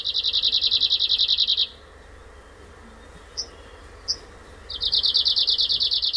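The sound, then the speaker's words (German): An Arctic warbler sings at Abisko in the late afternoon, as about half a dozen travellers wait for the day's second train: two loud, rapid, buzzy trills on a steady pitch, with a pause and a couple of short single call notes between them over quiet outdoor background. “Der Wanderlaubsänger verabschiedet mit seinem Gezwitscher das halbe Dutzend Reisende, das am späten Nachmittag im Wartesaal von Abisko auf den zweiten Zug des Tages wartet.”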